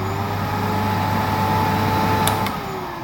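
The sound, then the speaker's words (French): A bagless Home vacuum cleaner vacuums a kitchen: a steady, loud motor drone with a low hum and a thin whine runs continuously, then drops in level near the end as the motor winds down, with two brief clicks just before. “Je prends mon aspirateur sans sac Home, acheté en promo à Carrefour, et j'aspire toute la cuisine.”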